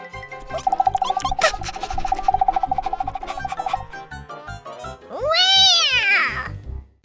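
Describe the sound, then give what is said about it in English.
A steady, high warbling tone runs for a few seconds, then after a short pause a single loud, drawn-out cat meow rises and falls, clear, with no talking. “The cat chases them out.”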